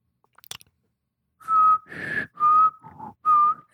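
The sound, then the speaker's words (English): A short, faint breath is followed by a run of clear whistled notes, about five tones in a choppy rising-and-falling pattern, fairly loud with no talking. “You got a breath and whistle.”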